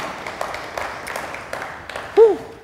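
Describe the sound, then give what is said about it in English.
An audience claps in loose, irregular bursts at a steady moderate level, and a brief, louder voiced sound rises and falls near the end. “I just enjoy the clapping.”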